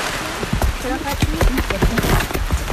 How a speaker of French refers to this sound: Un peu de pluie au programme, sinon ce n'est pas drôle.